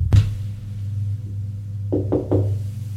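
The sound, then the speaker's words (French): Knocking on a door: one sharp knock, a pause, then three quick knocks in a row, fairly loud over a steady low hum. “On a frappé à la porte.”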